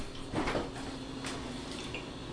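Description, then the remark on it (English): A fridge gives a soft click as it switches off, followed by a couple of faint tapping transients over a steady low electrical hum. No one speaks. “You can hear it, folks. I know you can. There it is. Oh, there it is. The click.”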